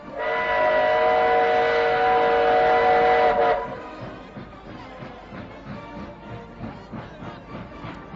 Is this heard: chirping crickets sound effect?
no